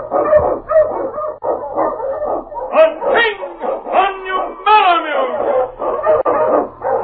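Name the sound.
sled dog barking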